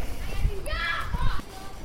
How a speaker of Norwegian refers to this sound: Unger som leker på trampolina.